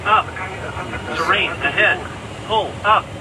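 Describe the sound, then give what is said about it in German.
A cockpit false-alarm warning caused by jamming of the aircraft's navigation signals: short, clipped synthetic voice alerts repeat several times over a steady aircraft engine drone, the last two bursts sharp and loud. “Manche Störungen sorgen in den Cockpits sogar für Falschalarme wie solche.”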